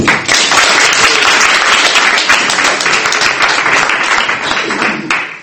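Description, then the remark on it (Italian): Audience applause fills the whole stretch, a dense steady wash of many hands clapping, holding loud throughout before easing slightly at the end, as an audience welcomes a speaker at a book talk in Verona. “cedo la parola al professor Carbone introducendolo con un applauso come facciamo al solito”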